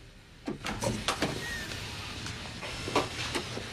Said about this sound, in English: Gordon opens the door.